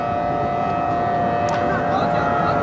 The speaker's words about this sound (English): All the shops shut. The shopping malls were strangely empty, and suddenly the streets were deserted, and the eerie sound of the air raid sirens filled the streets.